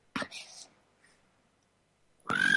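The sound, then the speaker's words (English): A voice mimics a cricket: a short, breathy, hissing chirp, a pause of near silence, then a louder raspy burst carrying a thin, high whistling tone. “I'm going to do my cricket noise.”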